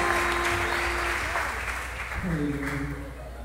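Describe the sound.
A crowd claps together in dense, steady applause, with sustained tones and a few voices rising underneath throughout the whole stretch.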